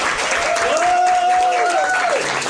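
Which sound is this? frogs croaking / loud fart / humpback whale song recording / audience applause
audience applause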